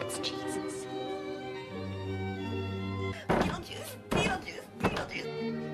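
A car door's outer handle is yanked and snaps off while someone tries to fix the door: three loud clunking rattles spaced about a second apart over a steady droning tonal background.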